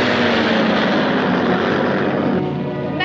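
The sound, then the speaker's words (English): A low-flying propeller airplane drones steadily and loudly over a thin river meandering along the floor of a U-shaped valley. It is a broad engine roar with buzzing harmonic tones throughout, easing slightly toward the end. No one speaks. “They fly low over a thin river that meanders along the floor of a U-shaped valley.”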